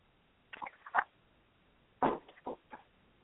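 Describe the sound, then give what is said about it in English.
Two short bursts of soft, wet sipping and swallowing noises, a slurp followed by a gulp, separated by about a second of quiet. No talking is heard. “Let me pause here to take a sip.”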